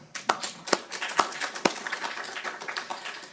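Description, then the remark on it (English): A crowd applauds Richard Bush and Alan Romberg, architects of strategy towards Taiwan, with steady, dense clapping, a few sharper claps popping out early on, holding at moderate volume for a few seconds without any talking. “I think that there are two in particular who stand out and deserve a round of applause today.”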